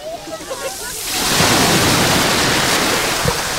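Small waves wash softly onto a calm beach at Salobreña, where a green flag is flying, a faint hiss that swells after a second into a steady rush of surf lapping at the shore.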